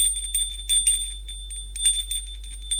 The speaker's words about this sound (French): Il sonne à la porte de l'hôtel des Dampierre.